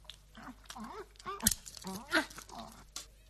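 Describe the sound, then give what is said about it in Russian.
A few sharp crunches, like a dog biting into bones, break through amid snuffling, voice-like grunts and murmurs, with two louder bites standing out midway. “какие тут замечательные кости. Спасибо. Дуду, ты друг собаки.”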